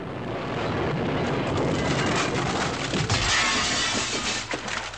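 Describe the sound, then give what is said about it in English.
A loud car crash with glass shattering and debris clattering for several seconds, a dense burst of breaking noise that surges again partway through before tapering off. “This car crash is bad.”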